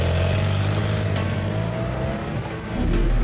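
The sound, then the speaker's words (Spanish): A motorcycle engine roars, its pitch climbing steadily as it accelerates, a loud continuous growl that dips slightly near the end before surging again, as Maurizio rides off on his motorbike toward his country mansion in the Swiss Alps. No voices. “Se montó de un salto en su moto y se dirigió a su mansión campestre en los Alpes suizos.”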